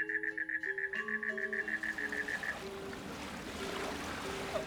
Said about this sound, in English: But first, I'm going to go down there to the beach and splash around in the ocean.